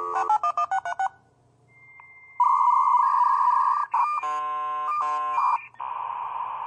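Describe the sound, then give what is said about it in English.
A dial-up modem connects: a quick burst of touch-tone dialing, a brief hush, then a loud continuous handshake of shifting tones, screeches and hissing static, with no voices. “just in case our younger listeners have not experienced this or have heard it and not known what it is, let's first hear the sound of a dial-up modem connecting.”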